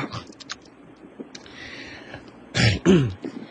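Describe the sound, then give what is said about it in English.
A loud throat clearing comes near the end, a harsh rasping burst followed by a second guttural rumble, after a stretch of quiet room noise with a few faint clicks. “I'm clearing my throat.”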